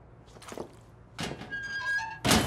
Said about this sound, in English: As the man closes the locker, the window swings open.